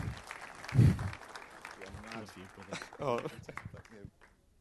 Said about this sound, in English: He's got a slow walk up, so it's a big round of applause. Come on! We love him! He's awesome!